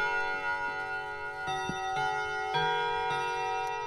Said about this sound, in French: Alors, c'est le carillon Westminster. Vous n'avez pas tout à fait le même son quand c'est fermé aussi.